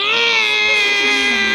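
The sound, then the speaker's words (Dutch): An angle grinder cuts through metal bars: a loud, continuous high-pitched whine that holds steady for over a second, its pitch wavering slightly as it bites. “Heb je misschien een slijptol? Ja, die heb ik ook. Oh, slijt dan de tralies maar los.”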